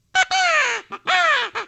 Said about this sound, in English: That's a real crow call, folks.